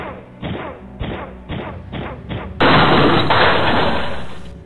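A door is smashed open: five heavy, evenly spaced thuds pound against it, then a loud, sustained crashing burst as it gives way, slowly fading over the final seconds.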